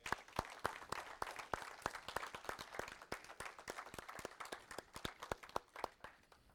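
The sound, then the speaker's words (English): Men and boys in an audience applaud the women, a steady stream of overlapping claps with sharp individual hand-claps standing out, continuing evenly for several seconds at a fairly soft level with no talking. “So men, boys, let's give our ladies a round of applause.”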